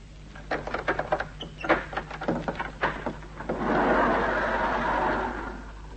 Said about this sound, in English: Get the main doors open, Yachty. We don't want to stand about in this infernal warehouse all night.